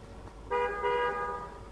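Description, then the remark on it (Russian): A car horn honks twice in quick succession, a short toot followed by a slightly longer blast, over a low background hum. “Машина, это за тобой?”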